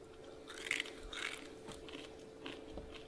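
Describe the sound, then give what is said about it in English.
Crunching and chewing of dry, brittle dehydrated chicken fried rice eaten without water, with irregular crackly bites spread over a few seconds against a faint steady hum, no talking. “It tastes like uncooked rice, except you can chew it.”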